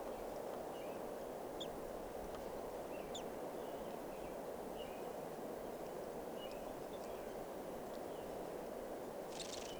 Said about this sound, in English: Recording, here's a bird.